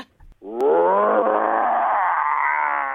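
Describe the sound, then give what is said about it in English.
A person imitates a tiger's roar with one long, loud, harmonically rich vocal growl that swells quickly and holds steady for over two seconds, preceded by a brief breath, as the opening entry in an on-air roar-off contest. “on this show, we like to roar from time to time, and considering that you've been the tiger, I thought we'd have a quick roar off.”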